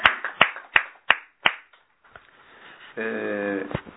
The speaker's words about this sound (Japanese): 満6歳の誕生日を迎えられましたので、盛大な拍手でお祝いをしてあげてください。